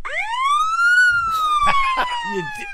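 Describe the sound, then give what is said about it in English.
A police siren recording played from a phone through a speaker: one long rising then slowly falling wail with bright harmonics, continuing steadily while people talk and laugh over it. “That's the cops. They're under us.”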